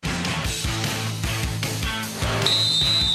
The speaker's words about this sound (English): back with you at the Kohl Center as that was the whistle. Second half is underway. Wisconsin hosting Penn State, and the Badgers down 40-26.